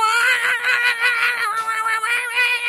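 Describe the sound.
A person imitating a singer's voice belts a loud, continuous high-pitched wail, wavering and warbling like a caterwauling cat, for a few seconds without pause.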